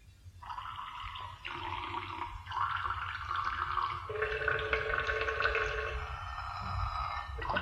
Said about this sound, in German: Ich habe mir eine Melodie gepinkelt. Hör zu.